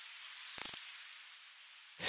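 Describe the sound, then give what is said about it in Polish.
A złotawiec grasshopper gives a short, delicate chirp: a quick run of about eight soft, high-pitched ticks lasting under half a second, set against a faint steady hiss. “A głos tego złotawca to takie delikatne cykanie.”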